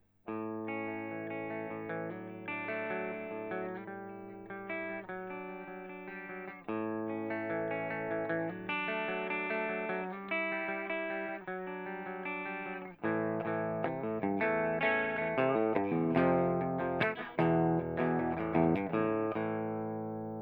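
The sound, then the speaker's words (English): Clean electric guitar, a Les Paul on the bridge pickup with all guitar controls at full and amp reverb around 8 o'clock, ringing chords and picked notes in three steady phrases, the last one busier and more strummed, with no talking. “Guitars are Les Paul. I'll tell you when to change pickups. We're going for bridge to start with.”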